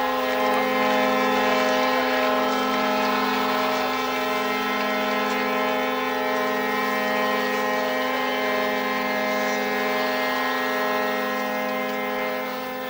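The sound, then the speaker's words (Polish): Sirens of Polish warships sound together at Westerplatte, Gdańsk, in a loud, sustained, steady blare with layered horn tones, holding for the whole stretch without pause and with no voices over them. “Rozlegną się syreny okrętów wojennych Rzeczpospolitej.”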